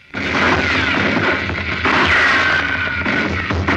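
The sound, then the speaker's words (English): Loud, continuous battle gunfire, including a German soldier's rifle shot, fills the whole stretch, rifle shots merging into a dense roar with rumbling booms and a faint whistling tone sliding downward. No one speaks. “He lies half hidden behind a tree, and he is lowering his rifle after firing a shot.”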